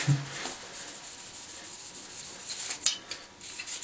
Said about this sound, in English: You want to give this a good scrub with a toothbrush. Obviously, I'll never use this on my mouth.